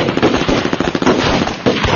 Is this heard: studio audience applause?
no